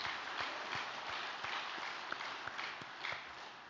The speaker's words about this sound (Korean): 역사의 은혜를 내려주신 천지인 참부님께 감사의 큰 박수 올려드리겠습니다.